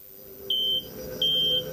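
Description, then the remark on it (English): The Millennium Falcon's comm system gives two short, high electronic beeps, evenly spaced and fairly loud, over a low steady background hum, signaling an incoming message from Jabba the Hutt as Han Solo and Chewbacca come out of hyperspace. “When Han Solo and Chewbacca came out of hyperspace, 6 hours later, their comm system began to beep, signaling an incoming message.”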